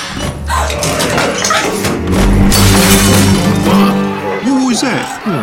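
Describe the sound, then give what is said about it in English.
A candle falls from a swinging chandelier and crashes with a burst of sharp, clattering breakage, loud and scattered over a few seconds, while a crowd of seafaring men murmurs and calls out underneath. “Candle. Candle? Oh. Those in the chandelier up there, see it swinging? Well, do you suppose knocked it down?”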